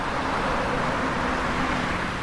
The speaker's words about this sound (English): But, of course, the traffic came back, and with it, the noise.